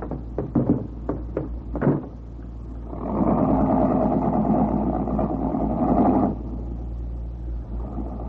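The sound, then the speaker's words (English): A car engine hums low and steady while driving, opening with a few quick knocks, then swelling into a louder, rougher roar for a few seconds before settling back. No one speaks. “Why don't you let me stop the car?”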